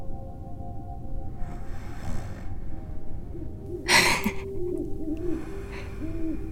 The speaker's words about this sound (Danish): De sover alle sammen. Hvis vi står helt stille, kan vi høre min bror og min far snorke.